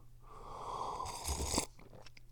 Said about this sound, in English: Because I'm way too busy drinking this tea. Which I find delicious.